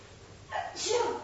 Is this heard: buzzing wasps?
no